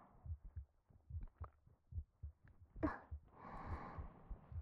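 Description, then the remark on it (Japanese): A muffled human heartbeat thumps in steady lub-dub pairs, with a soft breathy rustle rising over it partway through and lingering to the end. “薬も何もありませんし、私はお医者様でもないので、こんなことしかできませんが、こうやって誰かの熱を、鼓動を感じることで少しでも安心していただけたらと。”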